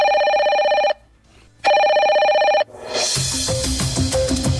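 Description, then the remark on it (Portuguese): A telephone rings twice as ADUFES, the teachers' association of the State University of Feira de Santana, phones a message to the governor of Bahia: each bright, steady trill lasting about a second with a short pause between, and then loud music with a beat starts up. “E a ADUFES manda o recado por telefone para o governador da Bahia.”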